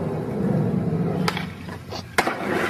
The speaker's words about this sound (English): So there's no driver in the car, and it narrowly misses the skateboarder. So what you're going to hear first is the skateboarder nail this amazing jump and then almost get hit by a car.